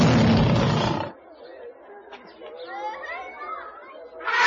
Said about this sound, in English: What are they? They are lions. They're big.